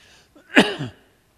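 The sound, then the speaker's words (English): A single sharp sneeze bursts out, preceded by a brief faint intake of breath, then fades quickly into silence. “Bless you.”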